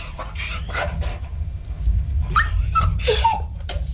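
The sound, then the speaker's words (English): A beagle barks in two quick bursts of high, yelping barks separated by a short pause, loud over a steady low rumble, with no one talking. “No, you're wrong. It was a beagle.”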